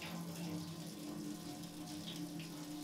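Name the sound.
water running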